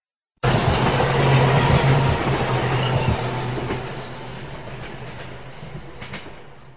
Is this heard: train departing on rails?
yes